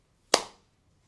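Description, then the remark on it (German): A single sharp hand clap rings out on its own, a crisp smack with a brief decaying tail, followed by near silence. “Entschuldigung, hast du gerade in deine Hände geklatscht?”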